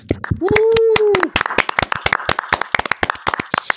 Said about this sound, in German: Und von daher, lasst mal was hören, einen riesengroßen Applaus.